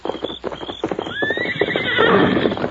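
A horse named Silver lets out a loud, rising whinny that quivers and trails off, while hooves clip-clop in a quick, uneven rhythm throughout. No one speaks.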